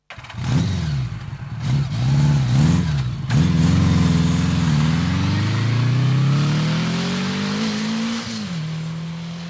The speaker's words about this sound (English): 20 minutes later, Rav was sitting on the back of a motorbike speeding to the local TV station.